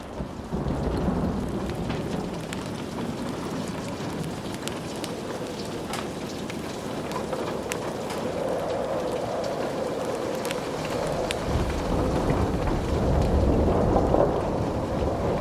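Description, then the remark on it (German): Steady heavy rain pours throughout a night storm with lightning while deep thunder rumbles and rolls continuously over the land, swelling slightly louder toward the end, with scattered sharp drips and patters on top. “Der Donner rollte über das Land, ein kraftvolles Echo der Energie der Natur.”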